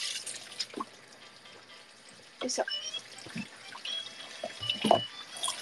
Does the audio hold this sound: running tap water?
yes